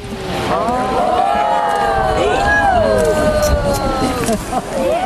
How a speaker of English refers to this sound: Here's a group of tourists watching Old Faithful erupt at Yellowstone.